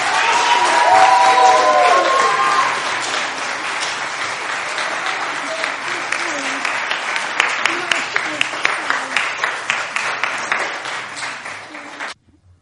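An audience breaks into sustained applause, dense clapping at first with a few whoops and cheers, then thinning into steadier individual claps before stopping abruptly.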